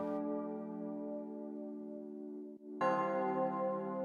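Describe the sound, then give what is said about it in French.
A deep, gong-like bell sound in a trap beat rings out with a long, reverberant sustain, then strikes again brighter and louder near the end, its ringing tone blending into the beat's synth pads and marking the first beat each time. “Pareil, c'est un son qui est assez long, réverbé, qui du coup s'est bien mélangé aux nappes, je trouve, et qui marque le premier temps aussi tout le temps.”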